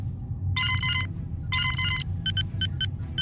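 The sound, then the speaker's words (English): A comm panel alert sounds for an incoming, extremely faint distress call: two buzzy, ringing electronic bursts followed by a quick run of short, high beeps, all over a steady low engine-like rumble, with no one speaking. “Captain, I'm picking up a distress call.”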